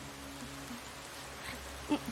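Steady rain falls in a soft, continuous hiss, fairly quiet and even throughout, with a faint brief bump near the end and no one speaking.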